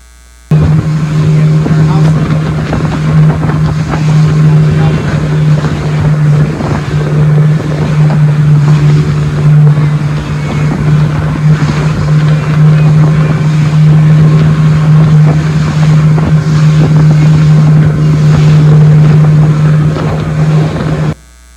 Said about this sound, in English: Right now, we've actually flying in the Dominican Republic, and then we travel by bus or by car to the border, cross the border on foot, and then we get on a boat, and we travel 3 hours in this way.